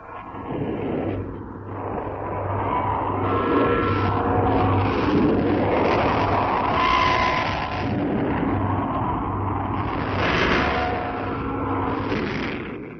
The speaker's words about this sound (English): what sounds like a steady roar, but is actually the sound of 2,000 saluting cannons intermingled with the bells of the Kremlin. Listen now to 2,000 guns proclaiming Russian Victory Day.